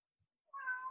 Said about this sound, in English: The cat. We got a cat. Hey, it's our first pet sound, I think.